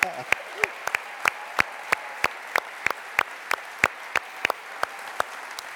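An audience applauds, at a church installation service, the wife of the man being installed as she comes from the back to the front, a steady wash of clapping with a string of sharp, evenly spaced claps standing out loudly above the crowd noise throughout.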